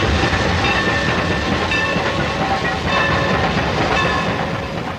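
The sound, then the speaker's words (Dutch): A steam train rumbles past, its dense, steady roar and rattling carriages filling the whole stretch, with faint whistle-like tones drifting over the top. No one speaks. “Kijk, daar rijdt zojuist een stoomtrein dwars door het huis.”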